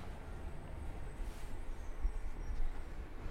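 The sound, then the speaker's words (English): A garbage truck collecting recycled waste with lots of cans at 8 a.m. rumbles with a steady, low engine drone and faint mechanical hiss, holding fairly even with a few slightly louder swells. Nobody speaks. “8 a.m. Here comes a garbage truck.”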